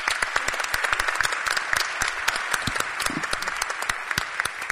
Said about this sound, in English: She kept me on my toes all year long, and she just deserves a huge round of applause.